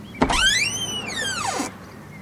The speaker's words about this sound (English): Mulana Hassan cautiously opens the door for his brother and his second wife and son